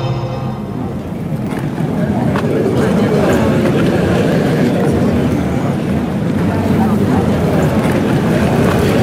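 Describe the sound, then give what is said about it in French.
A steady murmur of a crowd in Pointe-à-Pitre, Guadeloupe, many low, indistinct conversations blending into a constant hum at an even, moderate level throughout. “Alors là, vous entendez pas grand-chose, à part le bruissement d'une foule, des conversations à bas bruit, parce que...”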